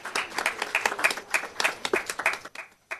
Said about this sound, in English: so we want to give her an award and applaud her.